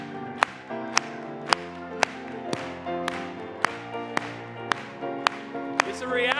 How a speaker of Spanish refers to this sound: Vamos a aplaudirle. Apláudale.